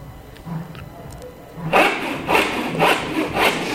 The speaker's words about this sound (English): Then we sawed together the giant mushrooms that we found in order to make a raft to sail on the central sea in Earth's interior.